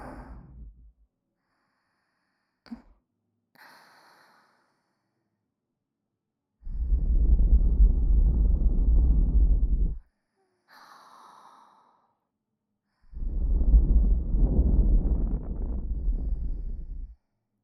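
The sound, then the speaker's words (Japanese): Two long, warm breaths blown right into the ear, loud and whooshing with a rumbly texture, separated by soft little inhales and quiet pauses. No talking. “うちのあったかい吐息。もっと耳穴に吹き込んであげる。”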